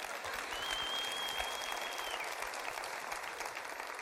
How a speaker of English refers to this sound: That's worth a clap.